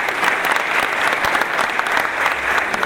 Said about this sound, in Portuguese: Por favor. Uma salva de palmas.